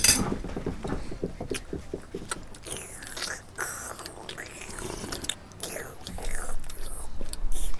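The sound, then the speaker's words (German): Loud slurping of lentil soup from a spoon at a family lunch in Erfurt, Germany: a run of wet, sucking sips and smacks that repeat unevenly for several seconds, with small clicks and mouth noises between them. “Hör mal auf zu schlürfen.”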